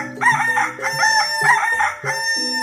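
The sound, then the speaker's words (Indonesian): A black fighting rooster crows loudly, its call rising and falling in several repeated bursts over a few seconds, with a steady background and no talking. “Seekor ayam petarung berwarna hitam yang tidak pernah terkalahkan.”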